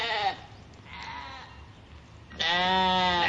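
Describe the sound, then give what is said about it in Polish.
Goats bleating loudly, a strong wavering call at the start, quieter overlapping bleats in the middle, then a long, loud quavering bleat at the end. “Rzeczywiście brzmią podobnie, chociaż przyznam się szczerze, ja zaliczam tę odpowiedź, ale tutaj akurat mieliśmy kozy.”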